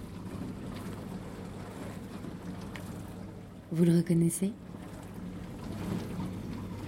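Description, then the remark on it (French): Water churns and laps steadily in a continuous wash of waves, fairly loud throughout, while a voice briefly asks a short question partway through. “Ce va et vient de vagues d'eau qui tourbillonnent les unes après les autres et tambourinent en cadence régulièrement.”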